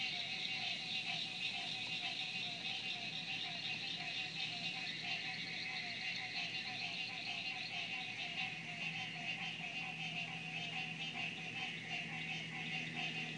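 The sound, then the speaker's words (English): A steady, dense chorus of crickets chirping continuously, with layered high-pitched trills blending into a constant background of night insects, fairly even in loudness throughout. “And so you hear the crickets underneath them.”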